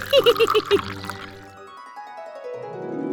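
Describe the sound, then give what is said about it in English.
Tea pours steadily into a cup, its tone rising as the cup fills, following a quick burst of short bright, bubbly notes at the start. “Pick me up on my handle and pour the tea into the cup.”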